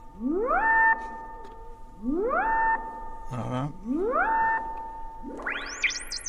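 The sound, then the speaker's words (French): Three electronic synthesizer tones, with the filter patched to an LFO, each swoop upward and hold briefly in an even repeating pattern, then a brighter, wobbling filtered burst closes it; a single short spoken word slips in between. “Donc là, j'ai patché par exemple le filtre sur le LFO.”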